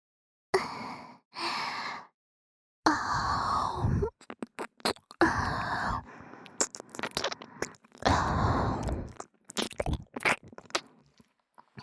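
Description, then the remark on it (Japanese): Breathy exhales alternate with wet licking and smacking mouth sounds in a breath-and-licking ASMR performance, repeating in uneven bursts with short pauses between, intimate and fairly loud. “というわけで、吐息なめやりますね。”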